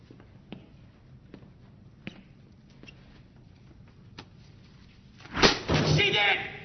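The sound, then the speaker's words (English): A door slams loudly near the end as people enter, following several seconds of quiet, scattered soft knocks. A brief burst of rustling noise comes right after the slam. “They walk through that door, you don't say nothing.”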